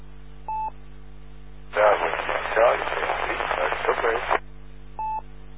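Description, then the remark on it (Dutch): A weak amateur radio transmission during an on-air check-in net, nearly drowned in a loud rush of static for a few seconds, a faint voice barely audible beneath it, with a short electronic beep before and after. “Ja, zou je nog één keer kunnen halen, want het is een beetje in de ruis.”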